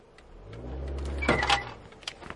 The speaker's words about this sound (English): that was me doing a handbrake start, or not really, a handbrake start. I'm sure I didn't roll back into the car and my brakes squeaked them.